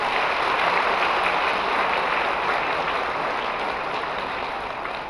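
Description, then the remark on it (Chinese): Sustained applause from a large audience in a theatre, given in thanks to Guanyin Bodhisattva. It is a dense, even wash of clapping that holds steady for about five seconds and eases slightly at the end. No voices are heard. “所以呢，大家再鼓鼓掌，谢谢观世音菩萨。”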